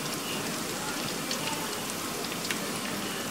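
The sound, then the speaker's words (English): Steady crackling and sizzling from crispy, freshly fried food as hot oil drips off it onto a tissue lining that absorbs the oil, a dense hiss with tiny pops scattered throughout and no voices. “So I line this with a tissue to absorb the oil. Let it drip for a while.”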